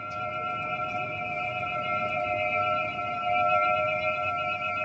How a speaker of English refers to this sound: Those are pigeon whistles. Pigeon whistles are tiny flutes. They're made from bamboo or gourds, and they are sewn into the tail feathers of homing pigeons that old Beijingers loved to keep in rooftop coops.